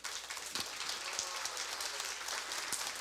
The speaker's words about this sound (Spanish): Se para un segundito para que le demos un aplauso.